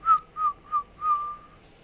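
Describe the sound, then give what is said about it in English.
A person whistles a bird call: three short, bright notes in a quick, even rhythm, then a longer held note. The pitch is high and fairly steady, and no one speaks. “Sometimes I'll be the bird.”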